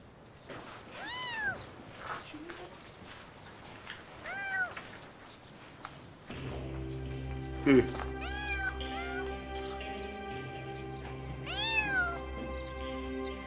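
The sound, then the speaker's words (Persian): A cat meows three times, fairly loud, each call rising and falling in pitch, spaced out over the stretch; a steady low hum and background noise fill in behind the later calls. “عجب، میگن گربه بی‌عاطفه است.”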